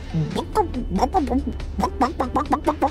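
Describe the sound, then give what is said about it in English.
A person imitates a chicken, making a quick run of about a dozen short, choppy clucks in an uneven rhythm, fairly loud, with faint low hum behind. “Mama, what does the chicken say?”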